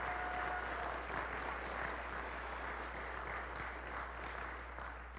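An audience at First Baptist Church applauds steadily in thanks for a longtime church staff member, a dense wash of many hands clapping at a fairly even level that thins slightly toward the end, with no talking over it.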